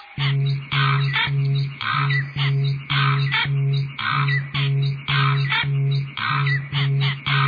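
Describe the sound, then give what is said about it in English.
A loud, rhythmic music track released in 2007 by a German producer, made entirely from sampled bird sounds, with repeating caw-like squawks chopped into a steady beat over a sustained low tone, no voices. “released this track, made entirely with sampled bird sounds.”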